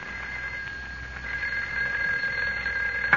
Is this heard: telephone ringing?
yes